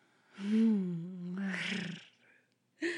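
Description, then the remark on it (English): A house cat at a cottage gives a drawn-out, wavering meow, fairly loud, stretching into a rougher, growly tail before a brief pause and the start of another cry. “When she came, the only one here at the cottage was me. Your loyal little house cat.”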